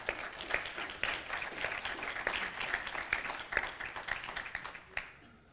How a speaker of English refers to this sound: Do you know that these studies go out over the internet and stuff, and that applause sounded like there was three of you that got it, man. Could you try it again and just kind of see?